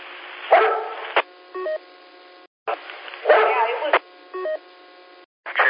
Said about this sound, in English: I hear the dogs barking, so check your microphone.